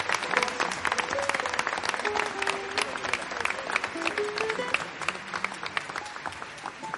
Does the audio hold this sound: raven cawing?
no